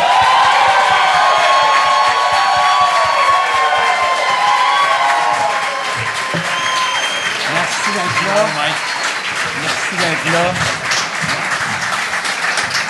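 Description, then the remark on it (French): Loud, sustained applause from a large festival show audience welcoming two performers on stage, with whoops and cheers rising over the dense clapping, fading slightly as excited voices begin to talk through it near the end. “Fait que là, mesdames et messieurs, bonne main d'applaudissement”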